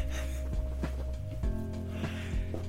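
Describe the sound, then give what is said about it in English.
A voiced laugh with short breathy bursts stretches into a long, low, drawn-out yawn, steady and fairly loud throughout, with no words spoken. “That laugh turned into a yawn.”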